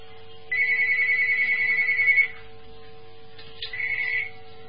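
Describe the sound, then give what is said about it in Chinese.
A telephone on a radio call-in line rings with an incoming listener call: one long electronic trilling ring, a pause, then a shorter second burst, fairly loud over a quiet steady hum with no one talking. “这个电话要挂掉，电话不挂掉，人家打不进来了，听众。”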